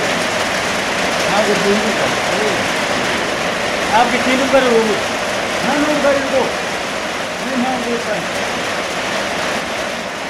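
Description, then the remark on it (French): Hail and rain pour down in a steady, dense hiss that fills the whole scene, while muffled voices rise intermittently beneath the downpour. “C'est de la grêle, c'est de la pluie.”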